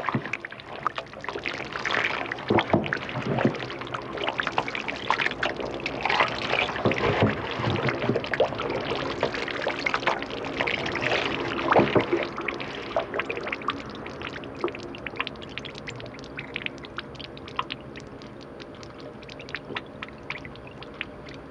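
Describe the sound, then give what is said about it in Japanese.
A paddle churns through thick, wet fermenting soy sauce mash (moromi) during soy sauce making in Japan, with dense fizzing and crackling carbon dioxide bubbles popping continuously, easing slightly toward the end; no voices. “醤油を作る工程の中で発酵してきたもろみを解剖という道具でかき混ぜると、炭酸ガスの繊細な音がしてきます。”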